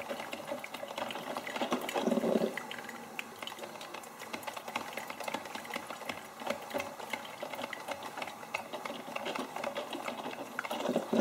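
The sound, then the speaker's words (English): A coffee maker brews coffee into the pot, hissing and crackling as heated water gurgles and spits through, with a brief louder sputtering burst early on. The sound is continuous, with no voices. “And then that crackling, squishing sound of the water mixing and beginning to fill the coffee pot.”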